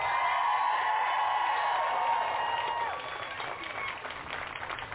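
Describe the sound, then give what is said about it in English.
A crowd claps and cheers for themselves and their organizers in a steady, dense wash of noise with overlapping voices, loud at first and easing somewhat after a few seconds. “Give yourselves a round of applause, please. Cheer even louder for your organizers.”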